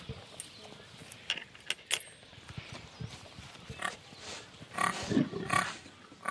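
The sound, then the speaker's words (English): Pigs grunt and snuffle while jostling at feeding time, with scattered clanks and rustles and a louder burst of squealing grunts toward the end. “Bully pigs will push smaller pigs out of the way, so we try to make sure it's well spread out so the smallest pig can get a fair share.”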